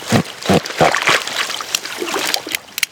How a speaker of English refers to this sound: I join the team as they wade into chest-deep water and yank reeds out of the marsh and put bait on a wooden platform.